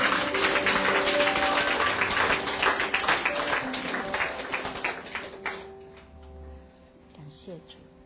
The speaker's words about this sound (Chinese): 好，我们现在鼓掌，谢谢我们耶稣，哈利路亚。